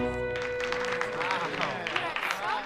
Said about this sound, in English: The teacher claps along with the students.